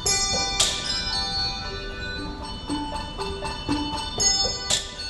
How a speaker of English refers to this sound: Along with enormous Christmas trees and dazzling light displays, a staple of Christmas cheer is handbell concerts. This one, performed by a young team of bell ringers in formal dress and white gloves, is happening in the Takashimaya shopping mall.